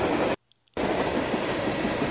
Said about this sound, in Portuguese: Eu já consigo ver o barulho do trem.